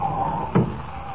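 A door opens with a single short thump and click, set against a faint steady background hum, with no one talking.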